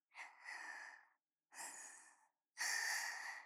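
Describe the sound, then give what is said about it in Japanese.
Heavy, rough breathing from a person holding someone in a tight embrace, in three long, noisy breaths separated by short pauses, each a broad airy rush, the last one the loudest; no talking. “それになんだか息遣いも荒いようですけれど、もう少し力を抜いてくださいませ。”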